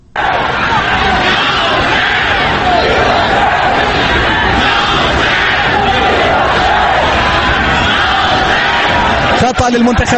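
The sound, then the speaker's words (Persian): A large crowd of Iranian fans at the Iran vs Singapore Asian Cup football match in Singapore roars and chants "Ya Hossein, Mir Hossein" and "Death to the dictator" in a dense, continuous wall of voices, loud and steady throughout, with shouted bursts rising above the din. “تماشاگران ایرانی در سنگاپور فریاد یا حسین میر حسین و مرگ بر دیکتاتور سر دادند.”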